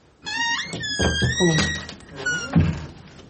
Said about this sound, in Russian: Что это за шум? Это закрылась дверь кабинета. Это телефон? Нет, это дверь. Что это? Дверь кабинета.